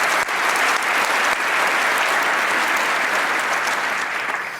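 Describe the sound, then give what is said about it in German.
A crowd claps loudly and steadily for Computertruhe, an organization with a stand at the event, a dense wash of many hands applauding at a constant level for several seconds, easing off only slightly at the very end. “Die haben sich auch schon ganz weit verbreitet, für die einen ganz großen Applaus von mir persönlich.”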